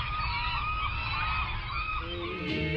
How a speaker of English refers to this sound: Luckily, you can look it up on the internet or just wait for the seagulls to tell you.